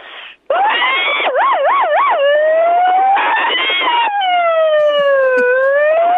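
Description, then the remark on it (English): A person imitates an emergency vehicle siren with their voice, loud, shifting from a quick warbling yelp into long, smooth rising and falling wails for several seconds. “Let's see if … can do a siren.”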